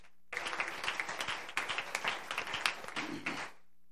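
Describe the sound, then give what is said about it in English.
A crowd of people applauds together in praise of the Lord, a dense crackle of many hands clapping steadily for a few seconds before stopping abruptly. “Could we give the Lord a hand clap of praise?”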